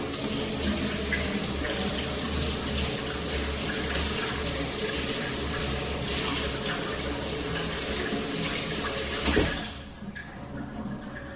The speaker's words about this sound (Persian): اول من اینطور که تو دستمه حدود تقریبا 250 گرم گوشت دارم، من اینو میشورم.